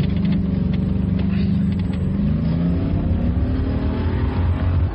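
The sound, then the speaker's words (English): A car engine starts and roars as the car reverses fast, revving hard and accelerating with a steady, loud growl that shifts in pitch as the vehicle speeds away. “When I say so, reverse like hell, straight at them.”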